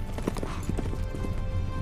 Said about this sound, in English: Allison's horse canters through the shadowy forest.